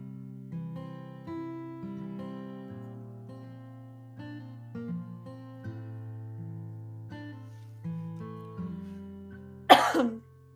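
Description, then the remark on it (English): A single sharp cough from a person with a sore throat bursts out near the end, loud against a quiet backdrop of soft, sustained tonal music that plays throughout. “It's times like this I wish I knew how to edit my recordings so that you didn't have to hear me cough, so I apologize.”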